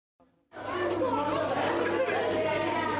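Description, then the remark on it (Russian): A steady hubbub of many young pilgrims from Russia, children chattering at once at Studenica, voices overlapping continuously after a brief quiet start, with no single speaker standing out. “Ее насельники словно и не замечали ребячьего гомона и направленной на них нашей видеокамеры.”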